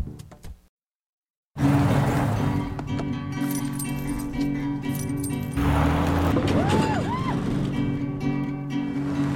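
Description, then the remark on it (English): A techno-style symphony made of car sounds, presented by Infiniti: after a short pause, loud sustained droning tones over steady rhythmic clicks and clinks, with a few rising-and-falling whistling sweeps toward the end. “Infiniti lets us listen to a techno symphony of car sounds.”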